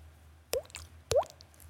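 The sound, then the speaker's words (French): Two wet plopping clicks about half a second apart, each with a quick rising pitch like a falling water drop, made by a voice imitating the sound, fairly clear over a quiet background. “… reproduit parfaitement le bruit d'une goutte d'eau”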